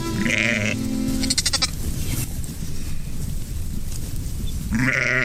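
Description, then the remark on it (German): A frightened lamb bleats anxiously, three loud, quavering cries with short pauses between, the middle one trembling, over a low rumbling outdoor background. “das ist der Rennlein, das hat auch Angst. Das blökt ganz ängstlich.”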